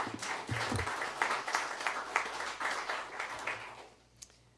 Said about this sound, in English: No? Okay, well then we'll applaud.